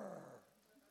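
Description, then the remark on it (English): A voice mimics a lion's growl: one short, throaty rumble, strongest at the start and fading within a second, heard on its own without other talk. “And maybe a lion went.”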